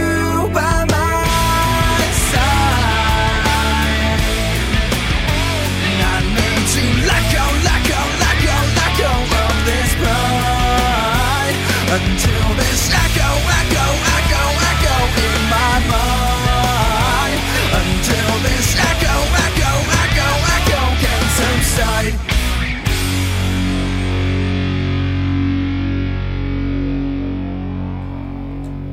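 A loud, dense rock song played on WTBR radio, with heavily distorted guitars and driving drums, plays steadily, then thins out and eases off in its final seconds. No one speaks over it.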